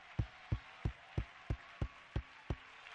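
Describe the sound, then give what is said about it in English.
An audience at a worship gathering claps in unison in praise of God, eight sharp, steady beats about three per second, each a punchy thump with some low weight, and no one speaks between them. “Clap your hands, all you people, the Bible says.”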